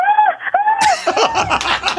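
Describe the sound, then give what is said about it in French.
A caller on the phone imitates little cries: two drawn-out, high, wavering squeals, then a burst of quick, choppy yelps that blur into laughter-like sounds, fairly loud throughout. “Attends, avant de raccrocher, peux-tu nous faire le bruit encore, s'il te plaît? Il faisait des petits cris comme...”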